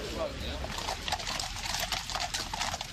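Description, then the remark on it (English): Six black horses leading a funeral cortege clop along a hard street in Bethnal Green in a steady, uneven patter, set against a noisy outdoor background with a murmur of voices. “Six black horses led the cortege through Bethnal Green along streets the Crays once ruled with fear, with modern-day East Enders lining the route to witness the passing of an era.”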